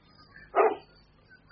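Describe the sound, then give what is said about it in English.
A dog, Carlo, gives one short, sharp bark, fairly loud against an otherwise quiet background, with no other barks following. “Your dog is quicker to recognize his friends than you are, sir.”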